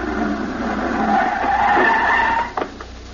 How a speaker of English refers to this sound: As he was walking along the boulevard and bent over to pick up his cigar, all of a sudden around the corner came one of those racy sports cars.